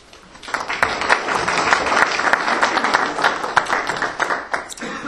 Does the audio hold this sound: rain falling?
no